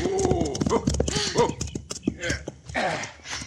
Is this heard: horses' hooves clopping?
yes